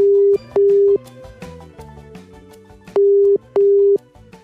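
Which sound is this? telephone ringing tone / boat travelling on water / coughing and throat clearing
telephone ringing tone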